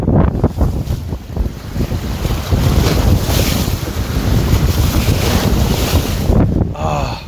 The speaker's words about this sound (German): Und es wird gerade immer windiger. Ihr hört es wahrscheinlich. Vielleicht kann ich euch auch mal das mehr zeigen.